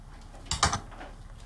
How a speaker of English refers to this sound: As Rosemary washes the dishes,